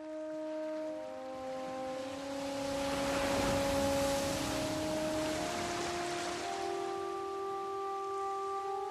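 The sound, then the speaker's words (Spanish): Soft hissing foam of calm sea waves swells to a peak midway and slowly eases off, a gentle wash of surf heard under steady, sustained musical tones. “Déjate arrullar por el siseo de la espuma.”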